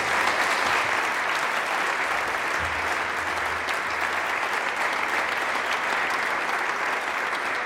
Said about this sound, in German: Und sie wird sich bestimmt über einen Applaus freuen, wenn sie den Podcast dann irgendwann mal hört.